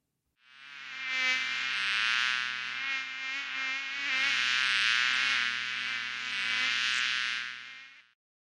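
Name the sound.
flies buzzing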